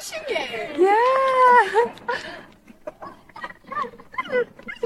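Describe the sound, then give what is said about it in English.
A 14-month-old male dog lets out a drawn-out, wavering whine near the start, followed by shorter yelps and whimpers, while people talk. “Really? Actual dog, yeah.”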